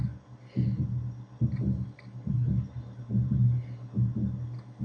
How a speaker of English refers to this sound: Yeah, it's like a heartbeat, but don't worry, it becomes music. You'll see.